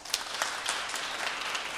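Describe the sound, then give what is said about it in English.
An audience claps to vote in a game, steadily for under two seconds, a dense wash of many overlapping hand claps at a moderate, even level with a few sharper claps poking through. Nobody speaks. “All right, now clap if you think it's the song.”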